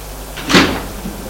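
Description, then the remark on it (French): An attic door on the top floor of a house swings open with a short, soft creak and a brushing thud, fairly quiet, with no voices around it. “Il ouvrit la porte du grenier.”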